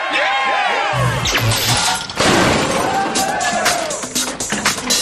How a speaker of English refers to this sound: You're going to have 10 hours to build these dragsters from the time that that big hunk of metal crushes that really unfortunate little car.